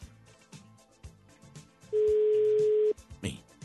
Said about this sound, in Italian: Squilla.